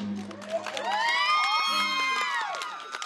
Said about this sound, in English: But they cheer like a class of eighth graders at the end. They totally love the movie. Really, they love everything that has to do with roller derby.